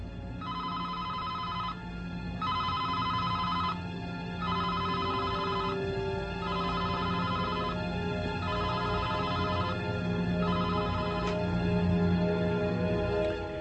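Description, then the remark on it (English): A telephone rings in a steady series of short bursts separated by brief pauses, about seven rings in all, fairly loud over a low background hum, with no one speaking. “Well, look who's answering the bat phone.”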